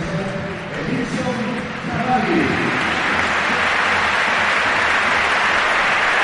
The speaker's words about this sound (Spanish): Cavani más listo que el hambre, más despacio no se puede ir, Devuelve el aplauso el uruguayo, que sabe que es el líder ahora mismo en Mestalla.